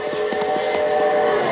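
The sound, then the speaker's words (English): A steam train whistle holds a steady, chord-like tone while quick rhythmic chuffs pulse beneath it, strongest early on, evoking America's railroads. No voices are heard. “And mighty railroads linking 48 states ever closer.”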